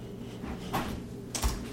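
A pencil tapping twice on a hard surface, two short dry knocks about half a second apart, fairly quiet, with a faint hum underneath and no voices.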